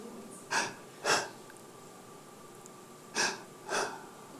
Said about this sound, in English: And then it's kind of weird because you're not saying anything, but you're just breathing together.